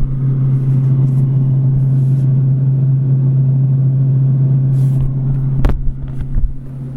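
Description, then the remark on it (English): A freezer running with a steady, loud low-pitched hum and broad mechanical drone throughout, with a brief clunk and some rattling near the end. “Here's the freezer.”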